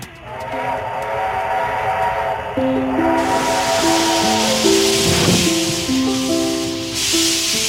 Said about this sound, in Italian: Eccolo, è il treno a vapore dell'Ombelico del Mondo, ora stiamo per salire.